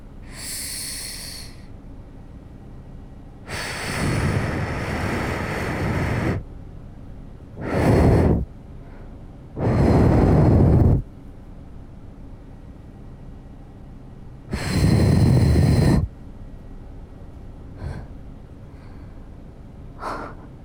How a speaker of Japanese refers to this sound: 綿棒だとこれ無理そうだな。吹き飛ばしちゃいますか。ここからすごく息を吹きつけようと思うんだけど、 覚悟はいい？ 私はできてる。 じゃあ行くね。